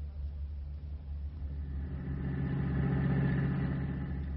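A car engine idles with a steady, low rumbling hum, its pitch and loudness rising slightly halfway through before settling into an even drone. No one speaks.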